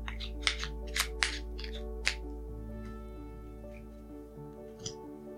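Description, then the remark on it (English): Cards being shuffled: a few sharp, papery snaps and clicks clustered in the first two seconds, then a lone tap near the end, over a low steady hum with no talking. “Okay, so I'm going to shuffle these cards.”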